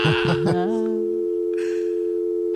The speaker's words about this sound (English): It's a dial tone. Dial tone? What is it?